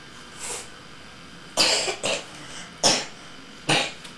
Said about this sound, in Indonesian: Batuk semua.